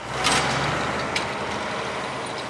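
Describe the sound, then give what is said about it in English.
A tractor trailer hauling huge loads of packages to distribution centers: its engine rumbles steadily, with sharp hissing bursts of air brakes releasing near the start and again midway, no voices present. “That means they drive tractor trailers and take huge loads of packages, feeding them to distribution centers.”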